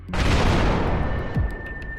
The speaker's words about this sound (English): It knocked me right on my face and I dropped everything I was carrying. The sound was like a cannon. But there was no way they could bring a cannon to the trenches.